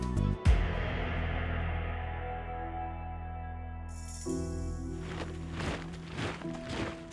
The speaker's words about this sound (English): The footsteps of enemy soldiers echoed off the corners of St. Peter's Basilica in Rome.